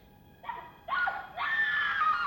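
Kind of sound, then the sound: human body sound, woman screaming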